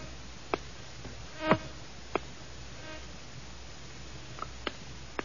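mosquito buzzing

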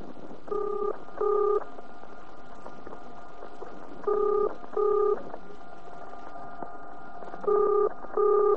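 telephone being dialed

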